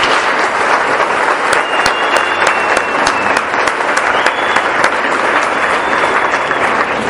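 Sustained applause from an audience, a dense steady wash of many hands clapping at full strength for several seconds, with faint whistles rising above it.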